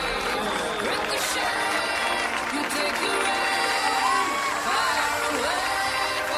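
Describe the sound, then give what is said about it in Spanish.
Wedding guests standing in the reception hall applaud and cheer as the bride and groom enter, with steady clapping and scattered whoops and shouts over the crowd's chatter, dense and sustained throughout. “Y ahora sí, llegó el momento de ponernos todos de pie para recibir con un fuerte aplauso a nuestros queridos”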